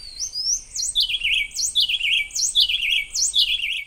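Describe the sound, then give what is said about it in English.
Two birds, a juvenile and its parent, sing a clear duet in a Costa Rican forest, the juvenile having learned to take turns. They rapidly trade turns: sharp upswept whistles alternate with lower descending trilled phrases, about four exchanges in a steady back-and-forth rhythm with no talking. “Again, for reference, here's the improved version when the bird had learned to take turns.”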